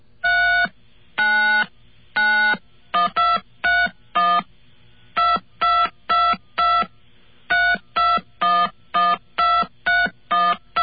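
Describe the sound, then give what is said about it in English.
A sequence of touchtone keypad beeps picks out a melody, about twenty-five short dual-tone presses in an uneven, halting rhythm, some quick pairs and some held longer, with no one speaking. “But anyway, that just goes to show what kind of fun you can have with a touchtone phone.”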